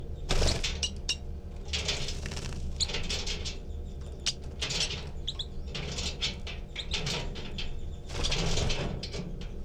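bird begging calls

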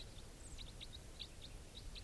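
wild birds flying over

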